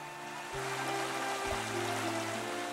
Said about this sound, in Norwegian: Den myke lyden av fuglekvitter akkompagneres av det rislende vannet i elven Taff, som renner gjennom langsbyen.